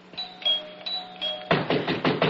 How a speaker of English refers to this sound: Finally! Why must he pound on the door?